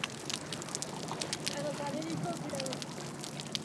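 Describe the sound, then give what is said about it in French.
Dense, irregular crackling underwater with no boat noise: countless tiny sharp pops and clicks fizzing continuously at a steady moderate level, over a low muffled background hum. “On entend plus distinctement les petits crépitements, je trouve.”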